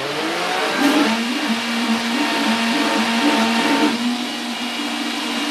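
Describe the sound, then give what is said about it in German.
An electric blender whirs loudly and steadily, its motor pitch wavering slightly as it chops herbs, running continuously with no talking. “Macht man wieder in den Mixer rein.”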